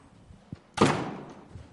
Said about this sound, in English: I'm going to shut this door so we can try to carry on. All right.